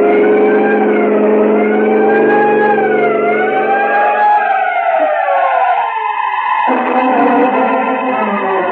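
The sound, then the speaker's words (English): A vehicle siren wails loudly and steadily, its rising and falling tone sweeping over engine rumble, then shifting pitch partway through as traffic noise continues beneath it. “Sound your siren. Time counts.”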